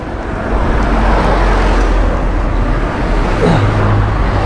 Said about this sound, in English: Oh, mind the evil traffic from hell. Hello from Brighton. I'm heading to Brighton Pride.